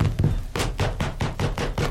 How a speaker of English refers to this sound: Gee, you know that groovy sound sort of sounds like somebody knocking on the door. I will go over and see. Why, Bert! Was that you knocking on the door? Of course it was me! I have been waiting out there knocking and with my knuckles getting sore.